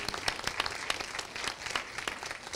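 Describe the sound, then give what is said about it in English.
A crowd applauds steadily at an evening event supporting AIR, the Arts Incubator of Richardson, many hands clapping at once in a dense, crackling wash with sharper individual claps popping out irregularly. The clapping stays fairly even in loudness throughout. “A round of applause for all of you.”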